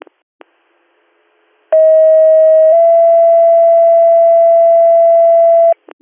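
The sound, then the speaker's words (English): A loud, steady radio dispatch paging tone sounds alone for about four seconds, stepping to a slightly different pitch partway through, framed by brief radio clicks before and after. It tones out for a driver for the Addison ambulance, for a motor vehicle accident in the village of Addison. “I'll tone for one.”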